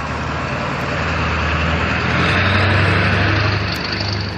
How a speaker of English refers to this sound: There's cars everywhere and they all want to go where I'm walking.